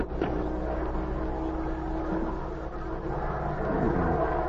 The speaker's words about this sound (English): Then, from the distance, came the hum of an airplane motor.